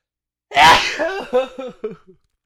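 A single loud sneeze caused by allergies bursts out sharply, followed by a few trailing gasping, sputtering breaths that fade within a second and a half.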